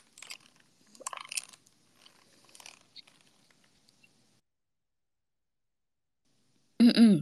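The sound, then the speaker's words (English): Scattered soft crackly clicks and crunches, then a few seconds of quiet before a loud throat clearing bursts in at the very end and gets cut off. “I need to clear my throat.”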